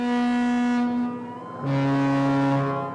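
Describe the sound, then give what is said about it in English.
Two long, deep blasts of the horn of the Sea Voyager, a nearly 300-foot cruise ship docked just off the St. Mary's riverfront campus in St. Mary's City, Maryland, sounded as an emergency signal. Loud and steady, the second slightly lower and fuller. No voices or other sounds accompany them. “The deep tubatutes come from the Sea Voyager. It's a nearly 300-foot cruise ship that's docked just off St.”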